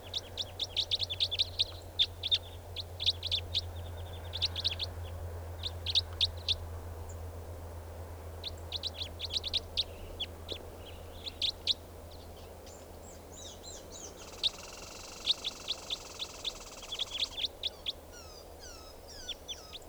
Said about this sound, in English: That four birds are all calling now, just perched in the tree, they're gonna take off.